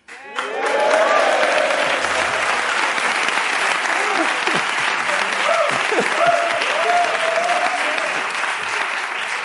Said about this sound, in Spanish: Gente aplaudiendo ahí, en plan de, claro que sí, esa gente ahí muriendo voluntariamente, all right.